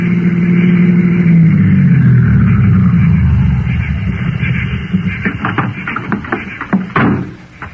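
A car engine rumbles loudly, its low drone swelling and shifting in pitch as the vehicle comes up the road, then settling into a rougher idle with scattered clicks and knocks.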